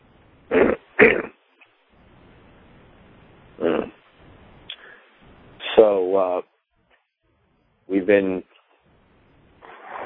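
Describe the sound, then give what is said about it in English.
A person coughs twice in quick succession, then clears their throat in several rough, voiced bursts spread over the next few seconds, fairly loud with quiet gaps between. “I need to get some cough drops.”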